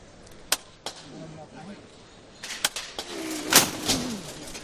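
A procession float's hammer knocker (martillo) strikes several times on a windy day during a Virgen de los Dolores procession with a palio: sharp, loud knocks at irregular intervals, heard over a steady crowd murmur with faint voices talking underneath.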